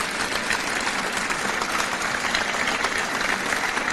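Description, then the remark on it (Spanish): A crowd applauds steadily in tribute to Matías Llorente, precursor of the fair in León, a dense and even wash of many hands clapping that holds at a constant, fairly loud level for the whole stretch, with no voices standing out. “Pido para él un merecido aplauso.”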